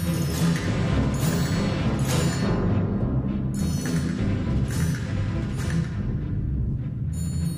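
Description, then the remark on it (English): An orchestral percussion section (tambourine, triangle, side drum, Chinese block, xylophone, castanets, gong and whip) plays all together, drums and metallic crashes striking in a dense, loud, continuous texture, with bright cymbal-like hits flaring every second or so and no voices. “And now, percussion all together.”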